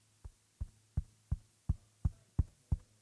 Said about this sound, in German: Oder aber auch, jetzt komme ich mal wieder ein bisschen lauter zurück, du darfst ja ein bisschen aufwachen, kratzen oder klopfen. Ich klopfe mal aufs Mikro.